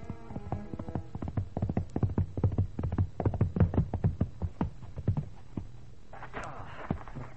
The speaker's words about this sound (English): What, from an early morning ride? Nonsense. Here, groom, take the horse.